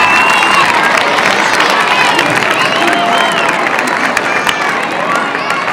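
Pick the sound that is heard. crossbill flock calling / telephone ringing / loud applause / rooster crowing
loud applause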